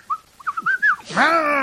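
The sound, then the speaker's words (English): A person whistles a quick run of short, bird-like chirps and trills, imitating a bird, then ends with a louder, drawn-out rising vocal squawk, clear with no talking. “Are you trying to imitate a bird?”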